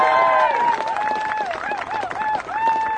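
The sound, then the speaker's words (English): An audience applauds the last speaker of the afternoon, a Palestinian, steadily for the full three seconds, a dense, loud patter of many hands clapping, with raised voices and cheers rising and falling above it. “So a big round of applause for our last speaker this afternoon.”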